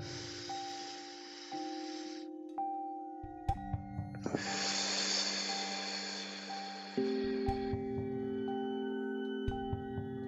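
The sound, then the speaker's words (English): During a guided breathing exercise, a slow, big, long, airy inhale through the nose, a short pause, then a longer breathy exhale through the mouth, clear over a soft, sustained musical drone. “exhale gently, inhale one more time, in, nice big long breath through the nose, exhaling through the mouth.”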